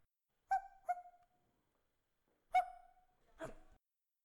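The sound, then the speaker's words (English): A human voice imitates a puppy growling protectively in four short bursts: two quick ones, a brief pause, then two more, with no other talking. “Baron teeth, growling protectively, then nestling you.”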